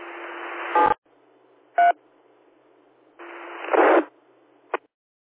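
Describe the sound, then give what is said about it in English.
Over a hiss of radio static, a few short bursts of touch-tone DTMF beeps sound, sharp and clipped, with brief gaps between them and no one speaking; the tones disconnect an amateur radio reflector as the net shuts down. “This is Victor Echo 6, Mike Sierra Hotel, disconnecting the reflector.”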